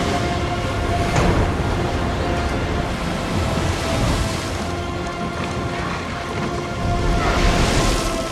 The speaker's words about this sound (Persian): باید الوارو قایق رو به هم ببندیم، دارن جدا میشن. طوفان سهمگینیه.